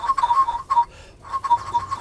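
A Chinese whistle brought back from China gives three bursts of a steady, fairly high tone: two quick blasts, then a brief pause and a longer one. It is clear, with no voices.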